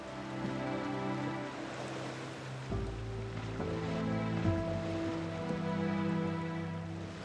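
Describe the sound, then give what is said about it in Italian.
Steady wash of water hissing and splashing against a boat's trim flaps at the stern, over a constant low engine hum, with no voices. “Si sente appena appena proprio l'acqua che struscia vicino ai flap.”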